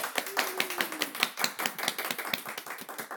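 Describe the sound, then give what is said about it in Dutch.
Studio audience applause for two actors seated at the presenter's table: many hands clapping in a dense, irregular patter of sharp claps that holds steady at moderate loudness for the whole stretch, with no voices over it. “Nou, dan zou ik van de mensen hier in de studio willen vragen om de twee acteurs bij mij hier aan tafel alvast een heel groot applaus te geven.”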